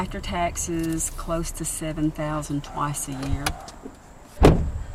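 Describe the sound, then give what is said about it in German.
Inside a car driving down to the Oconaluftee river, voices talk over a low engine hum and faint road rumble, then a single sharp thump, like a door or window shutting, near the end. “… lenkt das Auto hinunter zum Fluss”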